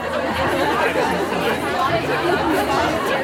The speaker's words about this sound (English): The Kaufleuten nightclub near Bahnhofstrasse, Zurich's main shopping street. By then, the staff had sorted the clothing and accessories and arranged them by category. And there was a huge crowd of women ready to pounce on the loot.